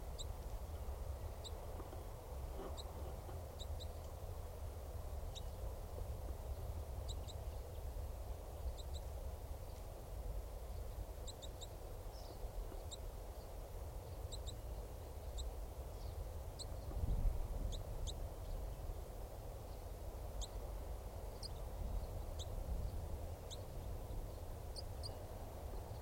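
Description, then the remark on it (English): A male bird gives a chittering call: brief, sharp, high-pitched notes in quick irregular clusters repeating throughout, fairly faint over a steady low rumble of background noise. “And this is still that male. Giving chitter.”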